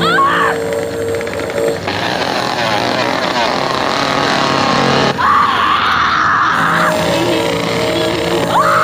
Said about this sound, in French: Le premier, c'est le hurlement des tripodes de la Guerre des Mondes de Steven Spielberg. C'est une sorte de corne de brume